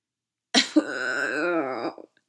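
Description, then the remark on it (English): Someone vocally imitates a coughing fit, with two harsh bursts running into a long, strained, groaning wheeze. The voice is fairly loud, with no other sounds around it. “immediately regretted it when sighing led to wheezing, led to uncontrollable coughing, and the feeling that his larynx was being carved open from the inside.”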